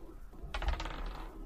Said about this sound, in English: Yeah, we just rolled a weighted 20 sided dice. You remember, I'm rolling the black dice that Big Cat asked for earlier.